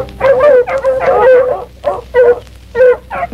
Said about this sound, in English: Well, here he is over here at this tree, boys. Come on over here. Let's get over there and get him. Can't we quiet them dirt dogs down?